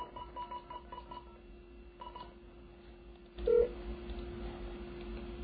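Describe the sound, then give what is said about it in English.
A quick run of about eight short keypad beeps on a telephone dialing the Bell's Mine line, a brief pause in the middle, then the dialing stops and a louder hiss of line noise comes in. A steady low hum runs throughout. “I guess we should just call the Bell's Mine and see what's going on.”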